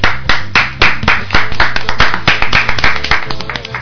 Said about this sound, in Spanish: Te doy un aplauso.